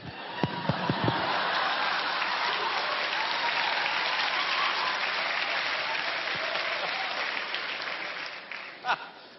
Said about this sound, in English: Oh, look at these young people clapping.